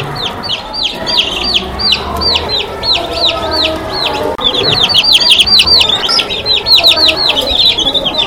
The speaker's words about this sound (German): Wir hören natürlich jetzt nicht nur Küken piepen